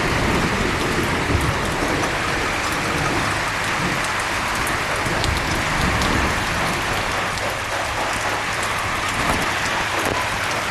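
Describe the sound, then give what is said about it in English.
Steady heavy rain pours down at the front of a house, a dense continuous hiss with scattered sharper drips and taps on hard surfaces, no voices, and a faint low rumble underneath. “I can hear the rain in the front. Sounds like a shower.”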